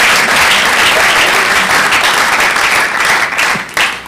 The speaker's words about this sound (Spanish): No, pero qué aplauso más desganado.